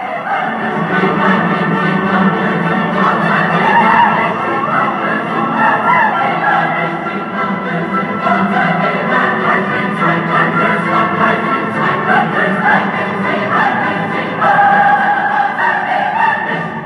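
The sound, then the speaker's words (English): A full choir sings a loud, dense fugal chorus calling on lightning and thunder to destroy murderers, overlapping vocal lines churning together in a continuous, forceful outburst that stays intense for the whole stretch without pausing. “Then it all erupts in a tremendous choral outburst, calling on the lightning and thunder to destroy these murderers.”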